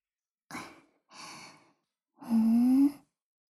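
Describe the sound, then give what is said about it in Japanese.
Soft, warm breathy exhales: two short puffs of breath, then a longer, louder sigh with a faint voiced hum that rises slightly in pitch. No words are spoken. “こういう温かい吐息とか。”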